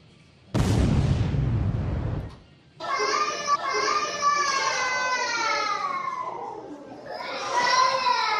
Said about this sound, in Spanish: La gente, se escuchan voces de niños, etcétera.